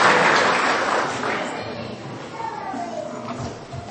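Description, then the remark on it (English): A crowd's round of applause for the children and the volunteers, a dense patter of clapping that starts loud and gradually fades, with children's voices and chatter rising as it dies away. “Well, a big round of applause, not only for the children, but also for all our volunteers.”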